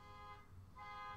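A faint car alarm sounds from far away, its electronic tone rising and falling in two repeated bursts over a low background hum, with no voices.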